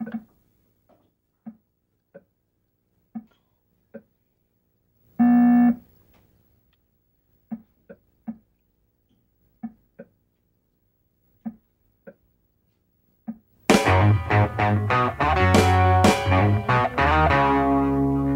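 Sparse electronic beeps from Atari's Pong video game ping back and forth at an irregular pace, with one longer buzzing tone partway through, before a full band kicks in loudly with driving rock music, opening a 1975 British prog rock song.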